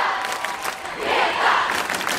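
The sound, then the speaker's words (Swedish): A large concert crowd cheers and screams continuously as Greta Thunberg presents herself at a speaking appearance, a dense wash of voices that swells louder midway and stays loud to the end. “Det här är ett klipp, men det här är då hur det lät i publiken när Sveriges enda riktiga rockstjärna presenterar sig.”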